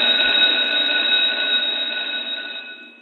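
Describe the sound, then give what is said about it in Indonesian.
An electric school bell rings in one long, continuous metallic peal, loud and steady with a bright buzzing tone, then slowly fades toward the end. No voices are heard. “Aduh, udah bel aja.”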